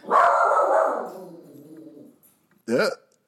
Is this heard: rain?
no